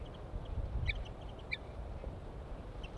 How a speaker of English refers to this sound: Male chitter on approach.